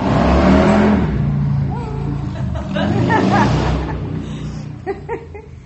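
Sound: motorcycle engine revving past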